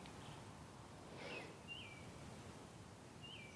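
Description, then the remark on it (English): A few faint bird chirps ring out at scattered moments, short high whistled calls over a steady outdoor hiss with a soft rustle of leaves, heard from a porch at about 4:45 in the morning while it is still dark. “The birds are up and”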